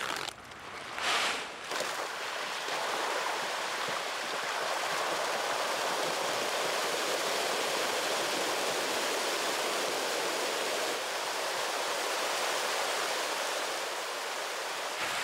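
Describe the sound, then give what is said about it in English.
Masses of pangasius catfish, 300,000 to a fish pond, thrash and splash at the surface while feeding on dry pellet feed, a dense, steady roar of churning water that stays loud for the whole stretch, with no voices. “you must come here early in the morning and watch the show while the fish have their breakfast”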